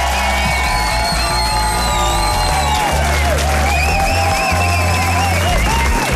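A large audience applauds and cheers loudly and continuously, with dense clapping under shrill whistles and high-pitched whoops rising above the crowd noise throughout.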